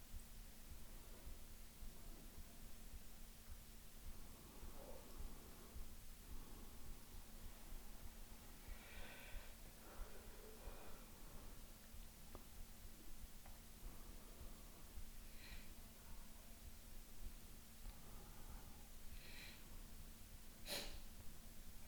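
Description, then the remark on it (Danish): Soft, airy breaths out through the mouth, during a guided breathing exercise while seated, repeat slowly every few seconds over a steady low hum and background hiss, with no talking. “Og puster ud igennem munden.”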